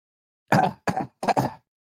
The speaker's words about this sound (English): Excuse me. Let me clear my throat.